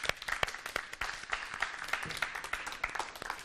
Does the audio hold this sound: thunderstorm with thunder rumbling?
no